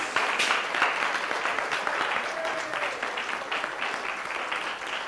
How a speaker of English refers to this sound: And as we do, let's give all our young people and our not so young people a little round of applause for all they've done this morning.